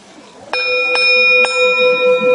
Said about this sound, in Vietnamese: Cho nên cái người mà trước khi thỉnh chuông phải chuẩn bị tư thế đứng như thế nào, cầm dùi như thế nào, tâm tư phải như thế nào. Cái người mà nóng giận không được lên thỉnh chuông, tại vì họ mà nóng giận lên thỉnh chuông nghe biết liền à.